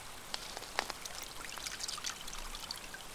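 Splashing and trickling of flowing river water as a hand is dipped in, with a few sharper plops over a steady babble. The river water is cool. No one speaks.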